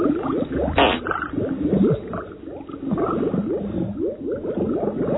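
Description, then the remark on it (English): Thick liquid bubbling and gurgling steadily, with a rapid stream of overlapping blips and glugs of fairly even loudness throughout, and no voices. “The bubbling crude.”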